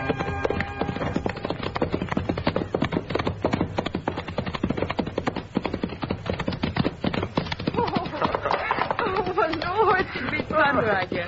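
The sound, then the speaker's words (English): Horse hooves clip-clop in a quick, steady rhythm throughout, loud, with a murmur of voices rising over the hoofbeats near the end. “Oh, yes, it's my favorite horse.”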